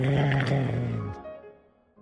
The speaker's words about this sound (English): Then, she heard a growl.